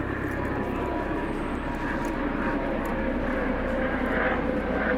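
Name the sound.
helicopter flying overhead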